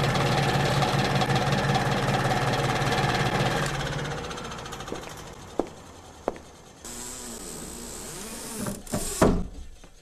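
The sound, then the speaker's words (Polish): A small ventilation fan in a cramped bathroom whirs with a steady, buzzing motor hum for about four seconds, then cuts out, leaving a few sharp clicks and a thin, high-pitched whine. “Ale wiecznik jest. Nawet z wentylatorkiem. Działa.”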